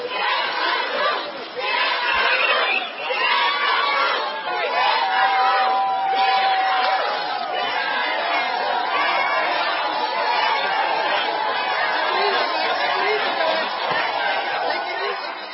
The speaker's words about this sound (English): Yeah, they're screaming, shame on you. And there was a whole bunch of hotel housekeepers, that's what they are, that were outside of the courthouse.